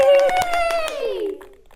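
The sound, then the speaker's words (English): About four sharp stomps and claps, made by children to wake a character called Hamilton, land in a loose rhythm beneath a child's sustained, gliding voice that slides downward and trails off into quieter taps. “Stomp and clap, stomp and clap.”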